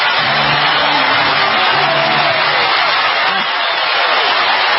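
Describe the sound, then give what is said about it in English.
A large concert crowd roars and claps as a singer is brought on stage, in a loud, dense, unbroken wash of applause, with a low rumble of cheering voices running underneath for the whole stretch. “I'm excited just listening to the crowd roar and clap.”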